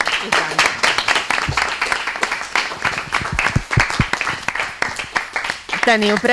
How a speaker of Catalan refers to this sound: jo com a profe estic molt orgullosa d'aquests alumnes que ho han fet avui molt bé, que ho han donat tot, han passat molts nervis, però bueno, que penso que el resultat ha sigut genial, així que un aplaudiment a tots i moltes gràcies per participar.